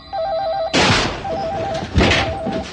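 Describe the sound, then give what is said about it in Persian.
All the telephones at an agency start ringing at six o'clock when its power comes back on, a warbling electronic trill repeating in short bursts while heavy thuds and clattering noise break in over them. Nobody speaks. “همه ی تلفن ها شروع میکنن به زنگ زدن.”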